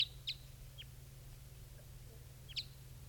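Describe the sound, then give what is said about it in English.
Wild birds near a net, as one of them is captured, give a few short, high-pitched chirps, two together at the start and one more later, over a steady low hum with no talking. “One of the birds has just been captured.”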